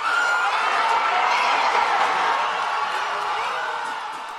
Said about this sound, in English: In San Juan, the crowd celebrated.